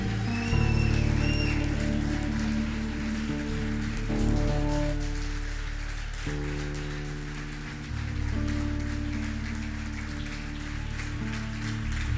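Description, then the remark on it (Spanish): An audience claps steadily in exaltation of the name of the Lord, a dense crackle of many hands over sustained, held keyboard chords that shift every few seconds; the applause stays fairly loud and even throughout. “Se anima a levantar un aplauso de exaltación al nombre del Señor.”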